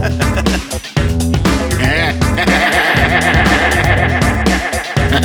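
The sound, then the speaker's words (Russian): A person grunts loudly like a pig, a continuous run of throaty, snorting noises that wobble in pitch over several seconds, dense with no pauses. “Зря вы хрюкаете.”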